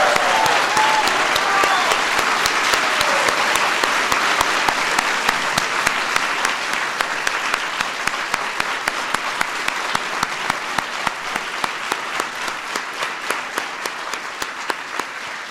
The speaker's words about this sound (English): I think now's a good time for everybody to stand up and give these outstanding winners or recipients a big round of applause. Yay.